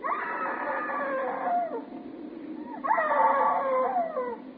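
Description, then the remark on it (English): A woman's muffled screams come twice, each a long wavering wail of about a second and a half, dampened, separated by a brief pause. “Why didn't you scream before? Why didn't you scream so Daddy could hear you?”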